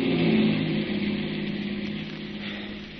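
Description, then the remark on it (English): A police prowl car drives past, coming across a bridge, its engine a steady mid-pitched hum that swells briefly at the start and then fades slightly over about three seconds, with no voices. “I think that's a prowl car coming across the bridge.”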